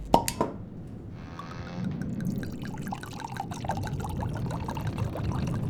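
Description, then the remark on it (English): Rum is poured over a man in a steady, splashing stream that runs for several seconds after a couple of sharp knocks at the start, fairly loud, with no one speaking. “They're pouring rum over poor Mr.”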